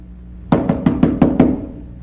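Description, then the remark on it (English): Six quick knocks on a door by a neighbor in the middle of the night, in a steady rhythm, fairly loud, each with a dull wooden thud and a short decay; nobody speaks. “His neighbor won't stop knocking.”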